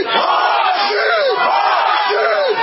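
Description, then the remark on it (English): A large crowd of Seahawks fans in New York shouts a chant of "Hawks" together before a game, in loud, rhythmic bursts, voices swelling with each repeated cry in call-and-response fashion, continuous. “When I say C, you say Hawks. C!”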